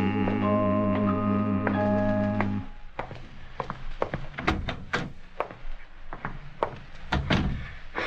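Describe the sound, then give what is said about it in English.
A sustained musical chord fades out, then slow, heavy footsteps thump up wooden stairs, a dozen or so uneven thuds with creaks and knocks between them, with no talking. A man who has just locked his grocery store is climbing the stairs to his parlor. “is climbing the flight of stairs that lead to his parlor.”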